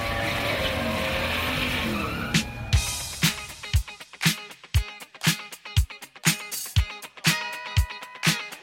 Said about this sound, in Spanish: ¡Drivers, start your engines! Se encienden los motores.